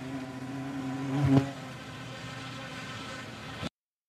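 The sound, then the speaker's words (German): A bee buzzes near a flower in a steady drone that swells louder briefly, then hums on evenly for a few seconds before stopping abruptly. “Ja, es ist, aber eigentlich soll es eine Biene sein. Und zwar eine Biene in der Nähe einer Blume.”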